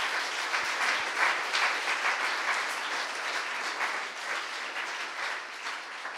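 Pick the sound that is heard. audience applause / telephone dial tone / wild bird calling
audience applause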